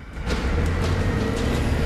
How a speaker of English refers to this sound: The big, boxy yellow van wallows out from the Matobo's driveway and out onto the street.